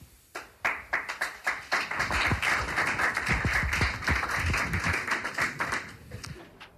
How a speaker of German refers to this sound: Das war dann auch der erste Applaus, weil es tatsächlich diese sehr Betroffene, die Perspektive einer Betroffenen ist, die sich mehrere Jahre sozusagen in den Kampf begeben hat mit einem Investor.